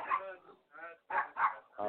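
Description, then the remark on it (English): A dog barks several times in quick, uneven succession, loud, with short yelping, whiny tones between the sharper barks. “My dog is going ape shit right now.”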